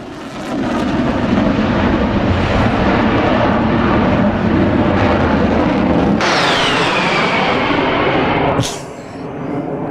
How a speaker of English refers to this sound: Yeah, so I'm looking forward to airplanes flying by. We'll have them fairly shortly. Yeah, I can't wait.